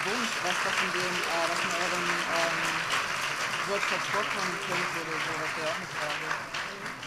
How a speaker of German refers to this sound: Ja, erstmal vielen Dank und einen großen artigen Applaus für unsere drei.